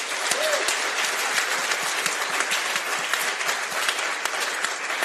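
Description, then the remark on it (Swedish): Warm, sustained applause from an audience welcoming comedian Jonathan Unge, a dense steady patter of many hands clapping at an even loudness for several seconds, with no voices over it. “Ge en varm applåd till Jonathan Unge.”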